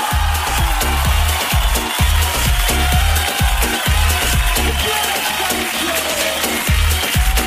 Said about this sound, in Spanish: Muy bien, un aplauso para él. Un aplauso.